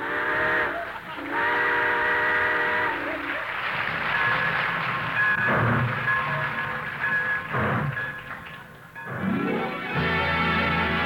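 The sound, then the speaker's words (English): A steam train's whistle sounds in several long, wavering blasts over a steady hiss and chuffing rumble as the engine starts moving, with a final loud whistle near the end. “All aboard! Well, looks as though we're ready to pull out,”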